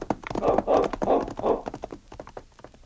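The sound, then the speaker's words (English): Horse hooves clip-clop along a trail toward Bear Creek as Sergeant Preston rides, in a quick, steady rhythm, fairly loud at first, then growing lighter and sparser toward the end. “As Sergeant Preston rode along the trail toward Bear Creek after leaving the constable in the mysterious cabin”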